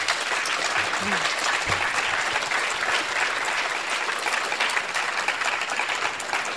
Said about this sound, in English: I want to thank Professor Blackhawk once again for this illuminating, deepening, and broadening of our understanding of the history of these lands. So let's give him another round of applause.